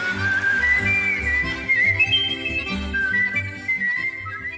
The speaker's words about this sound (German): Gegen Ende des 19. Jahrhunderts hat sich Kunstpfeifen als eigene Kunstform etabliert, zelebriert vor allem in und von der Oberschicht. Und von dort fand das Kunstpfeifen um 1900 seinen Weg in viele Varieté- und Kabarettprogramme.